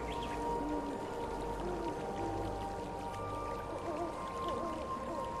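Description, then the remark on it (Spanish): Steady, continuous rush of flowing water at an even level, with faint drawn-out tonal calls drifting over it; no one speaks. “Déjate llevar por el sonido del agua, del viento, de los pájaros, de la naturaleza.”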